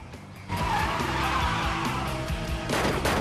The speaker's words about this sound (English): Mustafa pulls out of a side road and follows them. He leans out of his car and fires his gun at Austin and Felicity.